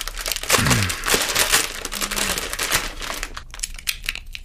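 Crackling and crinkling as a fortune cookie is snapped and broken apart to get at the paper fortune inside, a busy run of small crisp cracks and rustles with no voices.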